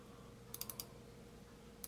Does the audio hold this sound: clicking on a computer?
yes